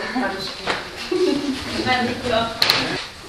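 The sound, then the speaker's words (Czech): Birds sing outdoors in short chirping phrases, with a brief sharper call near the end and a soft murmur of voices in the background. “Zamkneme si ju, nastřežíme uši a budeme poslouchat, jak ti ptáci venku zpívají”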